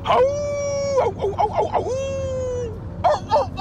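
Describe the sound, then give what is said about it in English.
A person imitates a rooster crowing: two long, high, strained held notes with broken, choppy vocal sounds between them and a short burst of vocalizing at the end. “That's a rooster.”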